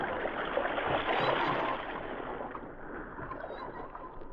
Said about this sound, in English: Less than an hour's time, they entered the boat and rowed off into the Arctic Sea. Using the stars as their guide, they steered their course southward toward the Yukon shores.